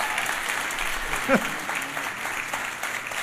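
Steady audience applause, a dense, even wash of clapping that holds at a constant level throughout, with a brief vocal exclamation rising above it partway through.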